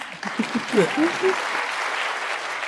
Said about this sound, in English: Yeah, it's okay to clap.